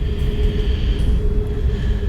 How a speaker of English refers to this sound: Other trains passing by.